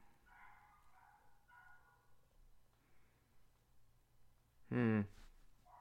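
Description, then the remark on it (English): Guard dogs bark excitedly: faint, scattered yelps early on, then one loud, sharp bark near the end over a low background hum. “I'm sure the microphone is picking up the fact that my guard dogs are going nuts.”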